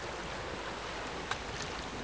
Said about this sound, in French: Entendez-vous le bruit des bateaux sur la mer, des gabions volant au-dessus de nos têtes, de la brise marine formant des petites vaguelettes sur l'eau salée qui nous entoure?